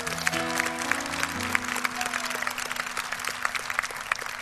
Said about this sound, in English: Let's give our first-time guests a big hand clap tonight.